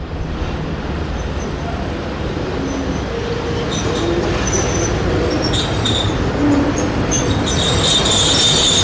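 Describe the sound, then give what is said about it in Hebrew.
The train from Odesa pulls in at a station platform with a continuous heavy rumble and rattle, while thin, high-pitched metallic wheel squeals come and go through the second half as it slows. “הרכבת מאודסה הגיעה, אבל אין לנו אפשרות להתקרב לרציף.”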